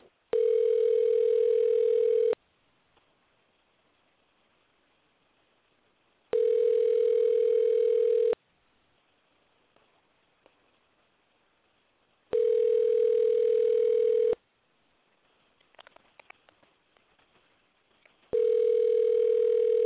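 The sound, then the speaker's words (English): An outgoing phone call's ringing tone as a call is placed to someone's phone: four steady, evenly spaced rings, each about two seconds long with a bright, buzzy pitch, separated by quiet pauses, with faint rustling between rings. “I'm just going to call his phone, and he's just going to listen. So y'all going to hear some ringing.”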